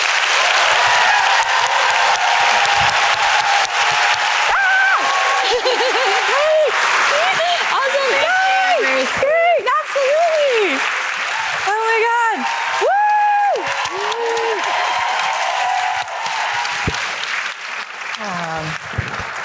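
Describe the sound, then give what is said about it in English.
A large audience at a conference claps steadily for about twenty seconds as two speakers are welcomed, a dense wash of applause with loud whoops and high cheers rising through the middle before the clapping thins toward the end. “It's just like the Olympics, right? Here, we're cheering.”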